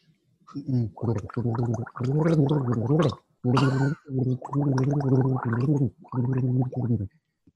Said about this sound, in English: All right, take a mouthful of water, hold it there, and in your own time, when you're ready, tell us what your favorite marketing tool is and why.